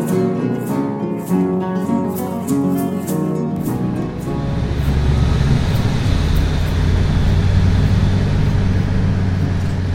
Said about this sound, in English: And I'm on a bus from Termini, the main railway station in Rome.